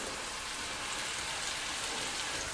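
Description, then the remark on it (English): Meatballs shallow-fry in a little olive oil in a pan with a steady, even sizzle, a dense hiss of tiny crackles and gentle bubbling that holds constant throughout, with no voices. “And so there's nice, gentle bubbling happening.”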